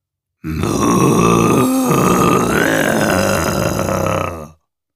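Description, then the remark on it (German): A sustained, low, eerie moaning from a herd of Jersey cattle, several overlapping groaning voices blending into one continuous, loud drone for about four seconds before cutting off. “Der Rest der Herde schloss sich ihr in einem markerschütternden Stöhnen an, das aus den schwefligen Tiefen der Hölle selbst aufzusteigen schien.”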